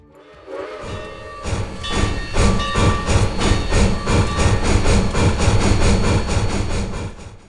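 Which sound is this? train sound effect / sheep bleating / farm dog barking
train sound effect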